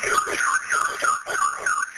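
A home alarm sounds during a break-in as a man tries to kick down the front door, its high electronic tone warbling up and down in quick, regular sweeps about twice a second, loud and continuous with no voices over it.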